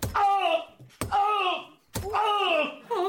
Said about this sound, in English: Do you know, I feel compelled to bang my head very hard against this wall to vent my fury.